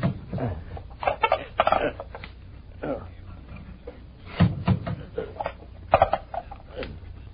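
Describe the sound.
Floorboards being pried up with a crowbar: a run of irregular wooden creaks, cracks and dull knocks in uneven bursts, with muffled voices underneath.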